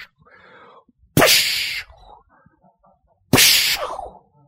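Two sharp, loud hissing bursts, a couple of seconds apart, sound like a voice imitating a whip crack with a forceful 'pssh', separated by faint murmuring.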